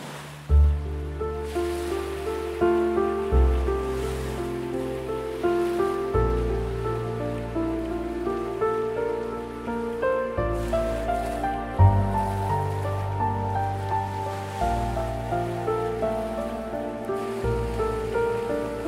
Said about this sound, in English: The sound of the waves to continue relaxing your whole body.